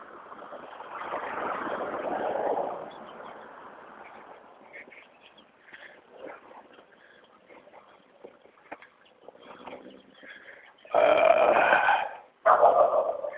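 A dog makes loud, rough, grunting noises in a few bursts: a long stretch near the start, quieter scattered sounds in between, then two loud bursts at the end. No one talks.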